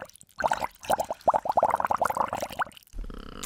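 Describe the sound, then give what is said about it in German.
Rapid bubbling as two people blow air through drinking straws into a bowl of water, a dense run of gurgling pops lasting a few seconds before stopping, followed by a low hum. “Dieses Blubbern, das denken wir ja schon, oder?”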